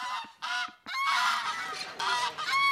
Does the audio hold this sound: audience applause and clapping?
no